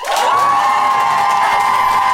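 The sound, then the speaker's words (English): A crowd bursts into loud, sustained applause mixed with whoops and high-pitched cheering, holding steady at full volume for a couple of seconds with no speech over it; a live audience voting by applause for the team they think made the best case. “So, if you think Ben and May made the best case, I would like you to applaud now.”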